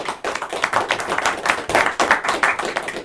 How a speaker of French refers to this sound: Un grand merci. On peut applaudir quand même.